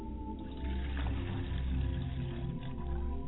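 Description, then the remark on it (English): Liquid is poured as a libation in a steady, unbroken stream, a low gurgling splash that holds at a moderate level for about three seconds, with no voices present. “I pour libation to my Father's side of the Spirit, and I say Ashe.”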